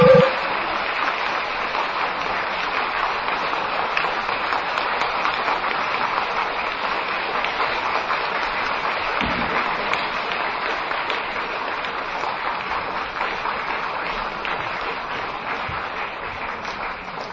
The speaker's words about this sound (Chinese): 请大家用最热烈的掌声恭请我们尊贵的卢台长为我们慈悲开示。